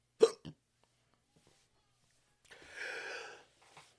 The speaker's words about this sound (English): Hold on. The hiccups.